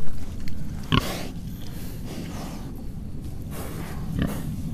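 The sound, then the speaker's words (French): Slow-growing pigs, about 13 months old, grunt and snort in a busy stream of low, rough grunts with a couple of louder squealing bursts, over a steady noisy barnyard background. “Je confirme que ce sont des jolis cochons.”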